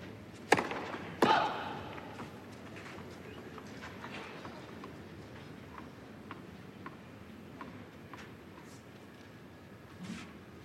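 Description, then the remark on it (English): A tennis racket strikes a ball twice in quick succession, sharp and loud, as Alcaraz takes it early with the forehand in a rally against Jannik Sinner late in the fourth set, followed by a few faint pops over a steady low background hum. “Alcaraz comes in, takes it early with the forehand. He slaps it back and he misses.”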